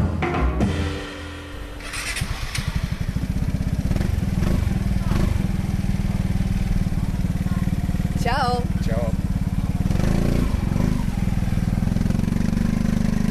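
A Vespa scooter engine catches after a quiet moment and runs loud, buzzing steadily with slight revs rising and falling, while a brief warbling sound cuts through midway.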